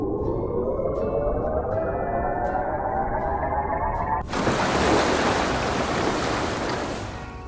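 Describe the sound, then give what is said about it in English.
A submarine rises through the water of Seal Cove, a deep rumbling churn with a steadily climbing tone, then suddenly breaks the surface into a loud rushing wash of water and spray. “Let's take the sub to the surface.”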